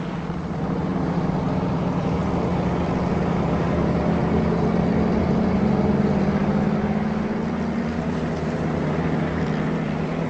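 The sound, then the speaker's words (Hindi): A steady, heavy engine drone from vehicles on a road, a low rumbling hum that holds at a constant loudness for the whole stretch, with no voices. “नहीं, उन गाड़ियों को हमें रोकना चाहिए।”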